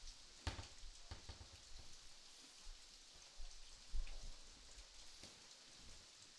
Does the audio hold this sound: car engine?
no